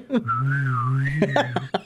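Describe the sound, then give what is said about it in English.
A sustained whistle imitating wind whistling through a hole in a person's head, holding a slowly wavering pitch for about a second and a half before breaking off into a few short vocal bursts. “What's that sound? What is that? That's just Chuck's hole in his head.”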